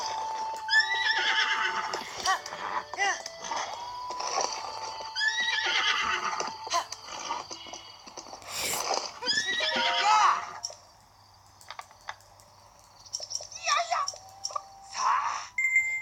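A horse neighs and whinnies repeatedly, loud, in several shrill descending bursts with short pauses between, over a faint steady hum.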